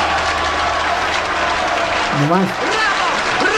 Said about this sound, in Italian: 92 minuti di applausi. Non sono gli applausi veri, quasi veri, no?